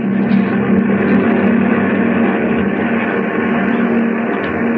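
A steady, loud engine drone fills an airplane cabin in flight at 10 to 12,000 feet, a constant low hum with a broad rushing roar that never changes over the whole stretch, with no voices.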